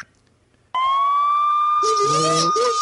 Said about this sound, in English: That was a police siren.